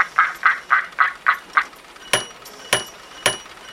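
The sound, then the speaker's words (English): A finely crafted mechanical replica duck with a copper mouth eats a handful of grain: six quick, evenly spaced quack-like honks, then a few sharp, irregular clacks of its beak, loud, with no talking. “Sacre bleu, the duck, it is eating the grain.”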